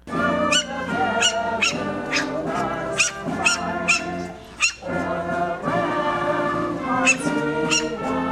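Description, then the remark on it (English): Dogs bark in short, sharp bursts every second or so over steady, continuous patriotic songs at a Fourth of July dog event in Friendship Square, Moscow, at midday, the barks loud against the melody. “Dogs barking mixed with patriotic songs was a sound heard at the 4th of July Mutt Strut in Moscow's Friendship Square at midday on the 4th of July Friday.”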